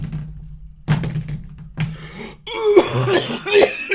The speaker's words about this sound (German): Ey, das ist doch einfach, warum muss man denn die ganze Zeit da reinhusten und räuspern und das Handy noch dreimal hin und her schmeißen? Das macht mich so aggressiv.